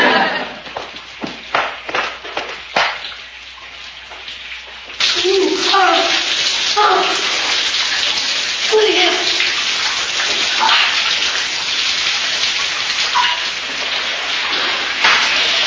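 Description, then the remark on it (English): A shower runs with a steady, loud hissing spray that starts abruptly after a few seconds of intermittent splashing and continues to the end, with a muffled voice faintly beneath it. “In the shower, lad.”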